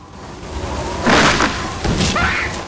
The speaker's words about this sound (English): A tree is uprooted and crashes to the ground beside her.